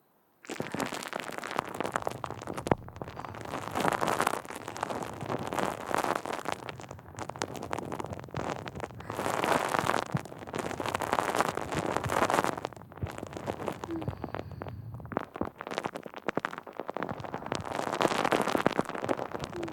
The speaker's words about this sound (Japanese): お耳の中にもたっぷり泡入れて、シュワシュワパチパチしようね。